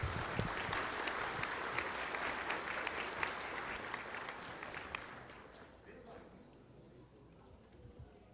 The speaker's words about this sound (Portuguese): Uma salva de palmas para ele, que ele merece.